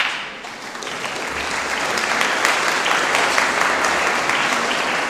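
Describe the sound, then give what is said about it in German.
A large group claps steadily for several seconds after an announcement of the day's collection, a dense, continuous patter of many hands that swells slightly after the start and holds at a fairly loud, even level with no voices. “Ich hätte jetzt beinahe gesagt, klatschen nützt nichts, da muss man dann schon Geld reintun.”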